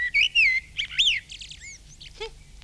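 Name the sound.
male blackbird singing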